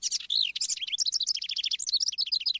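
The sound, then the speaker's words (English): A house wren sings a rapid, bubbling song of tumbling chirps and trills, close and clear, with quick repeated notes running continuously for a few seconds with no voices. “The house wren is a remarkable songbird, successful across two continents, highly adaptable, and a steady and songful presence in our lives.”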